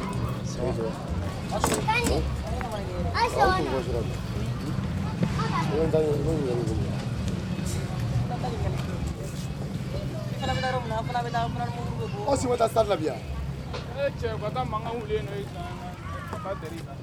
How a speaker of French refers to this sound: Comme tout bon Bamakois, on circule à travers la ville en moto de Jakarta, dans la circulation dense, des voitures, des taxis, sautramas, sortes de petits bus très lents, charrettes en tout genre et motos innombrables.